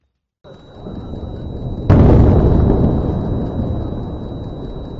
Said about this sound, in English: Explosions have lit up the skies over Beirut as Israeli strikes hit Hezbollah targets in the Lebanese capital. Smoke has been seen rising over parts of the city after Israel said it began striking Hezbollah infrastructure.